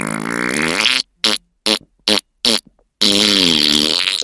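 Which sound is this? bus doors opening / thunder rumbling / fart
fart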